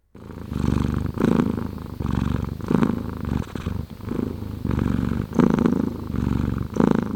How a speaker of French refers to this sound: Sais-tu ronronner comme un chat heureux?